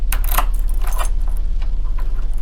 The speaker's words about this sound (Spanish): A las 8 de la noche, que era la hora en que regresaba Fernando a su casa, se escucharon las llaves en la puerta.